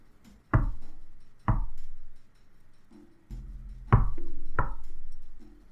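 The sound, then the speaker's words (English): Four heavy knocks on a back door in two spaced pairs, each a sharp, solid thud with a brief low ring, with quiet pauses between them and no voices. “A second set of knocks. On the back door.”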